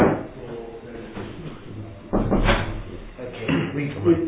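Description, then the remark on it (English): A door swings shut with a solid thud partway through, followed by shuffling and muffled handling noise, with faint voices murmuring in the background. “Let's close this door.”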